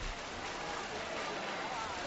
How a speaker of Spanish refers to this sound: La gente aplaude de nerviosismo y de satisfacción, emoción, claro, evidentemente, porque es un instante muy esperado a lo largo de todo el año.